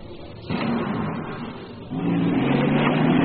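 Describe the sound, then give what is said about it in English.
A taxi cab's engine revs loudly as it speeds away toward a hotel, the steady motor roar jumping up twice in pitch and volume as it accelerates, with no voices. “The cab sped away to my hotel.”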